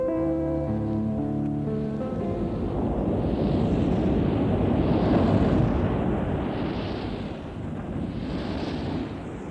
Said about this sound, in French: Une nuit de tempête où le bateau est très secoué